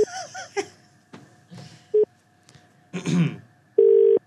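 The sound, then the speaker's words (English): A telephone rings with short electronic tones: a couple of brief beeps, then a longer, steady, mid-pitched tone at the end, with scattered rustling noises in between and no talking. “Okay, madam is going to pick up the phone.”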